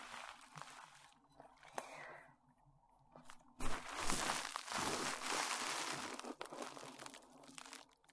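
Loud crinkling and rustling of a plastic-backed pet sheet pad, starting softly with scattered crackles, then swelling into a dense, continuous rustle for several seconds with no talking.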